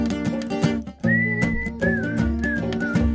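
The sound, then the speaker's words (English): Someone whistles a clear, sustained tune with a few shifting notes over steady instrumental music, starting after a brief musical lead-in and carrying through to the end. “All right, put your lips together. Let's hear a whistle.”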